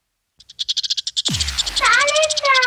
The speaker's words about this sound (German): Ich glaube, es ist kein Vogel? Es ist kein Vogel, genau. Was ist es? Ich glaube... Die sind klein, haben einen buschigen Schwanz. Ich glaube, Eichhörnchen. Ja, genau, es ist ein Eichhörnchen.